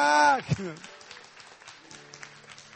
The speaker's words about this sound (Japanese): イエス様に大きい拍手を、アレルヤ。